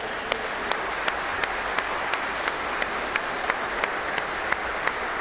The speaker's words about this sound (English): A big round of applause for our moms.